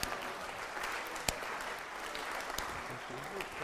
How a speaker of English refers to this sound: Can we give him a slow clap?